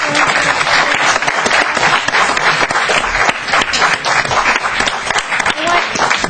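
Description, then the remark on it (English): A crowd applauds the debaters loudly and steadily for several seconds at the end of a debate, a dense wash of many hands clapping with a few voices faintly mixed in. “I think maybe we owe the debaters another round of applause for”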